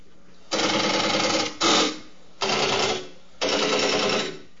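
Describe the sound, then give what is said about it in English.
Telephone exchange relay switches clatter in four bursts of rapid mechanical clicking as a phone number goes through, each lasting about a second with short pauses between, fairly loud, with no voices. “basically every time you go click, click, click, it goes along with one switch.”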